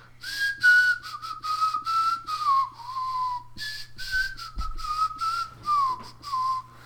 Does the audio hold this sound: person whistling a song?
yes